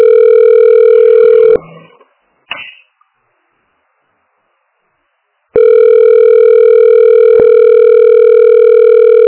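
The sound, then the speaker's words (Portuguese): A loud, steady telephone busy tone from a busy internal office extension being called by a telephone operator hums through the line, breaks off with a couple of clicks into a few seconds of silence, then resumes just as steadily until the end. “O ramal lá tá ocupado.”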